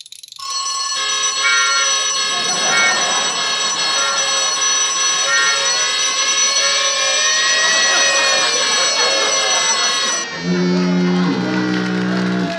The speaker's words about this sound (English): Well, the alarm still works. Switch that off.